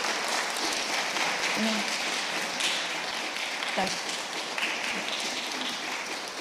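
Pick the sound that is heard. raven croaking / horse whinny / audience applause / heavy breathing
audience applause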